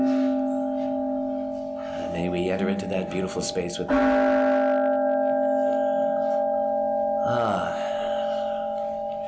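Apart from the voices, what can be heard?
ringing bell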